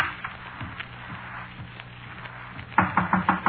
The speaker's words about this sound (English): Didn't you knock at this door? Are you crazy? Well, I thought I heard somebody.